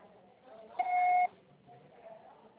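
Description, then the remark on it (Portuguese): A single steady electronic beep, a pure mid-high tone lasting about half a second, sounds over a faint murmur of background noise. It is the signal after a Portuguese voicemail prompt to record a message. “Grave seu recado. Seu processo será tarifado após o sinal.”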